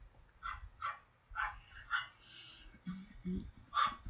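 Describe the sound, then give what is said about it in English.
A black Labrador dog named Duke whimpers and yips in a series of high, whining bursts, with a few deeper barks mixed in, moderately loud, with no talking. “So Duke was a black lab.”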